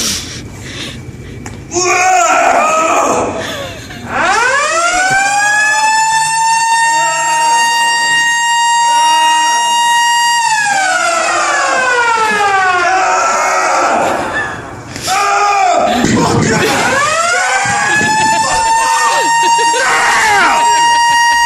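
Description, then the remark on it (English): A Planet Fitness gym lunk alarm blares loudly in long, wailing siren blasts that swoop up in pitch and hold, sounding twice with a short break, set off on purpose by men lifting weights, grunting and throwing them on the ground, while voices clamor underneath. “people in the gym at a Planet Fitness, they will do things to purposely set off the Lunk Alarm”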